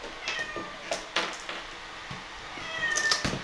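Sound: cat meowing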